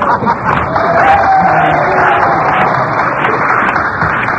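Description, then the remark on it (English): The studio audiences of the College Quiz Bowl, for Colgate University and Cornell University, erupt in loud, sustained applause and cheering, with whoops and shouts rising over dense clapping that holds steady for several seconds. “Can I have wild applause from both audiences?”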